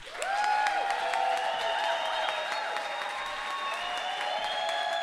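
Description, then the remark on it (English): An audience at a live storytelling event applauds steadily and loudly for about five seconds as a storyteller is welcomed to the stage, a dense wash of clapping with rising whistles and cheers threaded through it. “It really makes you want to do some jive talking when you get an applause like that, bringing you up on the stage.”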